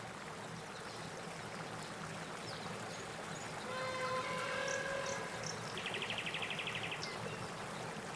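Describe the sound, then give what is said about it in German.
Steady, rushing river water flows throughout during a boat ride on the river, a continuous wash of noise, with a brief whistling tone in the middle and a short insect-like buzz near the end. “Deine Fahrt auf dem Fluss geht weiter.”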